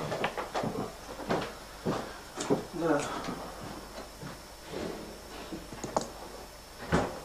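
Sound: door being opened slightly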